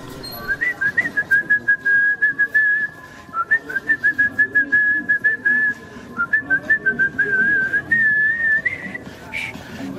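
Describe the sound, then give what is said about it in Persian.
A person whistles a melodic tune while walking along, in steady, lilting phrases, the notes clear, with soft ambient noise underneath and no talking. “مقداری در سکوت راه رفتیم تا اینکه شروع کرد به سوت زدن.”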